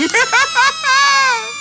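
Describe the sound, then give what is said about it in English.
A balloon squeals as air is let out: three short, wavering high-pitched bursts followed by a longer, steadier whine that slowly sinks in pitch. It is loud, and nobody talks over it. “Of course you'll hear from miles away for 24 hours this balloon squeal day.”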